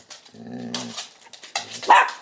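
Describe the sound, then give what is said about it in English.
A male working dog vocalizes in short bursts, a drawn-out, tonal whining bark followed by a brief pause and then a sharper, louder bark at the end, with no one talking. “He's a lovely dog.”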